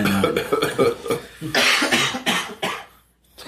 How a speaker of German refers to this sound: Ja, jetzt husten wir alle. So. Wir sind immer noch sehr gesund.